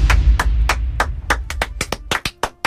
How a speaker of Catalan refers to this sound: Un aplaudiment.